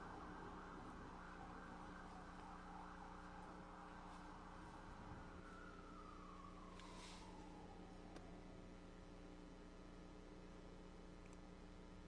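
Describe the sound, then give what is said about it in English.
A faint siren drops in pitch as it passes by during the close of an evening service, blending into a steady background hiss and low hum, with no one speaking. “Dear Father, as we bring our service to a close tonight, with the sound of a siren ringing in our ear, it is only so descriptive of the trouble that there is all around us.”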